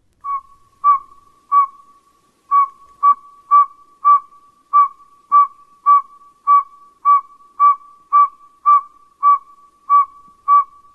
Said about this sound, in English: And I realize it doesn't sound much like an owl. It sounds like a garbage truck backing up. But that's the advertisement call of a male saw-whet owl.